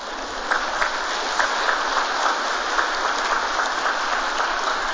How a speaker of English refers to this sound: Here in this parish, we love our confirmation students and candidates. Am I right? See? And they give you a big round of applause too.